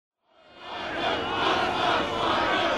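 A soccer crowd erupts in a sustained roar of cheering after another goal for the Ducks, making it Ducks 3, Frogs 0, swelling quickly from silence and staying loud and dense throughout, with many voices blended together.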